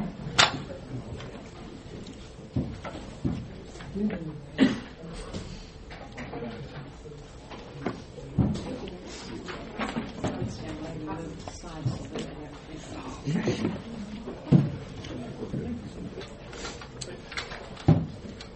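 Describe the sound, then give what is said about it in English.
Hymnals are passed out to a class, one for every person: scattered rustling, page flutters and soft irregular thumps, with low murmuring voices underneath. “So let's pass them out real quick, because mostly we're just going to look at lyrics.”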